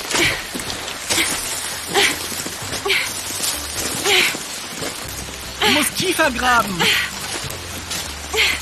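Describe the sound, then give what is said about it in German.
Steady rain hisses in a constant wash of noise throughout, with a few brief clattering sounds, while people talk over it as they dig a trench around a tent with a shovel to keep the water out. “Schneller, der Regen.”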